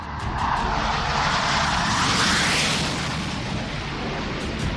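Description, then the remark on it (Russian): A pair of Su-25 attack jets taking off from an airfield in the special military operation zone for a strike, with a loud, continuous engine roar that swells to a peak midway as they pass, then eases slightly. No voices. “Как только в штаб авиагруппы поступает координатор для удара, пара грачей устремляется в небо.”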